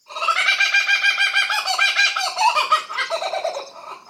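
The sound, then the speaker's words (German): A kookaburra, a crow-sized bird perched on a branch, gives a loud, laugh-like call: rapid, rhythmic cackling notes tumbling over one another for about four seconds, with no voices. “Sein Ruf klingt wie lautes Gelächter. Und der Vogel lacht erneut.”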